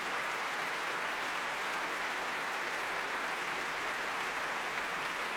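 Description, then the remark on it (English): Sustained applause from a large audience at the Proms for every player of the West-Eastern Divan Orchestra after their Beethoven cycle, as the conductor walks in front of the orchestra; a dense, steady wash of clapping with no breaks and no voices, holding at an even level throughout. “He walks in front of the orchestra now and gives us, the audience, the chance to applaud all sides, every player in the West Eastern Divan Orchestra.”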